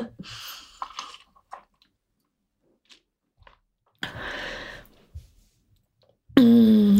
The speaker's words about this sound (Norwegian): Så jeg må ta meg en slurk vann og skål for det.